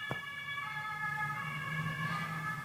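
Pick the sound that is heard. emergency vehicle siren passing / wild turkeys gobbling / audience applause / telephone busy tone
emergency vehicle siren passing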